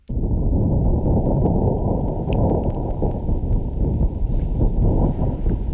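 Martian wind recorded on Mars by NASA's InSight lander, with the volume raised by NASA: a steady, muffled low rumble of blowing wind that roars on without pause for several seconds, with no voices.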